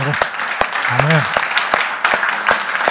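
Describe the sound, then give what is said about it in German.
Sustained applause from an audience, a dense crackle of many hands with sharp individual claps standing out, while a voice briefly calls out over it. “Lass uns nochmal für die klatschen heute Morgen.”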